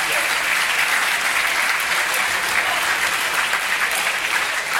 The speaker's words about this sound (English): Round of applause, if I may, on your behalf.